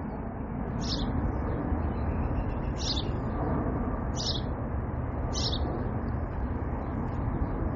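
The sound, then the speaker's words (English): Four brief, high chirps from birds all around outdoors ring out a second or two apart over a steady outdoor hiss, each short and clear against the wash of background noise, with no one talking. “Literally, these birds are all around me.”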